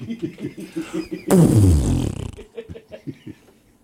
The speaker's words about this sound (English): Like, no, dude, it's a whale farting. It's a whale, bro. It's a gassy whale. Chill out. It was louder than that. It was deeper than that.